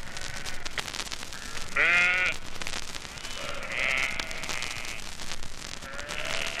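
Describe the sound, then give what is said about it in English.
Sheep bleat from a flock grazing in Hyde Park, London, one loud bleat followed by a few fainter calls from others scattered around, over a steady outdoor rustle with no talking. “Here, in the very heart of London, in the vast green acres of tree-sheltered Hyde Park, here are the tranquilly grazing flocks of sheep that surprise even Londoners, never mind strangers in town.”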